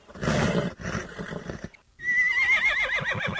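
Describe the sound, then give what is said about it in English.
A horse named Lightning, being saddled and bridled for a ride, gives low, rough snorts and breathy rumbles, then after a short pause lets out a loud, shrill whinny that quavers and slides downward in pitch. “Saddle's on and cinched up tight. Stick that head over here and let me get that bit in your mouth.”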